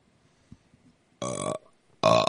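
Two loud, drawn-out burps with a gap between them, the first lasting about a third of a second and the second cut off at the end, after a few faint clicks and rustles.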